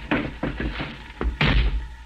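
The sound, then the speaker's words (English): A car's rear door slams shut with a heavy thud, preceded by a few lighter knocks and rattles as it's handled, over a low rumbling background. “He slammed the door shut, got in alongside of me.”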